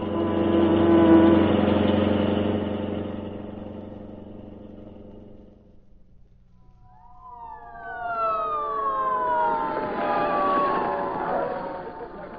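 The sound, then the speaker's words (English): A deep engine rumble fades out, then several fire engine sirens at a burning tenement wail together, their pitches sweeping up and down in overlapping loud howls with no one talking. “Boy, did you ever see so many fire engines?”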